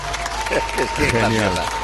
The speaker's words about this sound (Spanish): Genial, Eva. Aplausos para Eva Fernández.